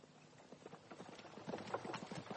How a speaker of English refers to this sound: The night air was fresh and cool. The horses galloped like the wind.